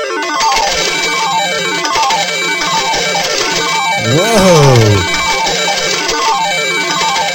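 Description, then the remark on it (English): A loud electronic slot-machine win jingle from a computer slot machine game plays continuously after matching three of a kind with five coins inserted, with repeating bright descending chimes and tones, while someone briefly exclaims in surprise partway through. “That's what you'll hear whenever you get on this match.”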